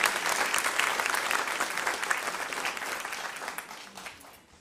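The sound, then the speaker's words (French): An audience claps steadily for the people who make items each week to bless strangers around the world, a dense wash of applause that holds strong for several seconds before gradually thinning and fading out near the end. “Est-ce qu'on peut juste les applaudir?”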